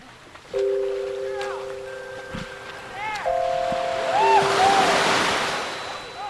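Bay water laps and swishes at San Francisco's Aquatic Park at sunrise, swelling into a broader splashy wash midway as a swimmer emerges from the bay, with steady horn-like tones and a few short chirping calls in the background.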